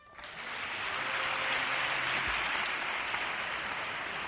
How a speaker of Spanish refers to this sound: Amplia ovación para el pregonero de esta Semana Santa, que así concluía su intervención.